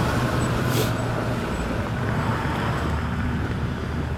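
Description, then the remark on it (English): A school bus rumbles by, its deep engine drone and road noise filling the air steadily for a few seconds, fairly loud, with a faint whooshing hiss on top and no voices. “There goes a school bus.”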